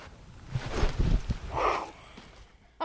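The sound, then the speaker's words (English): A fast falcon flown by a falconer swoops past, buzzing by with a short rushing whoosh of air midway, surrounded by soft rustling and low thumps, with no talking. “If you listen carefully, you'll hear what it's like to be buzzed by a fast-moving falcon.”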